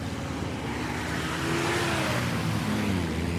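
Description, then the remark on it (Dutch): Jeeps speeding eastward into Es, a village near Boxtel, a steady engine roar that swells and climbs in pitch after the first second and a half, staying loud throughout with a broad rushing hiss and no voices. “De jeeps scheuren oostwaarts, in de richting van het gebied waar ze uiteindelijk hadden moeten landen.”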